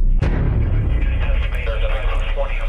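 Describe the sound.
A sharp burst of heavy 30mm cannon fire from an Apache helicopter cracks out near the start, then gives way to a steady low rumble and hiss, with faint, muffled voices underneath.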